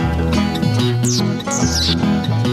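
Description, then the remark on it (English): A voice imitates a mouse with a couple of high, sliding squeaks, each briefly swooping downward, over a steady musical backing that plays throughout. “I saw the wild mouse and the wild mouse squeaked.”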